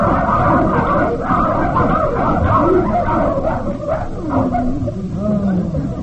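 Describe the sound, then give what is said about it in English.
A pack of sled dogs bark and yip over one another in a dense, continuous racket, loud, with a few rising whining cries breaking through the din. “Ah, what faithful dogs. They never leave their post.”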